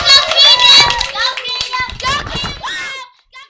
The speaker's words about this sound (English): Well, that's all the time we have today for Talk Show. Can we get another round of applause for our experts?